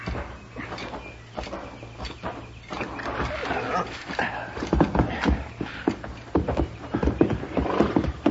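horses riding

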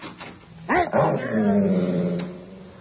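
frightened dog barking

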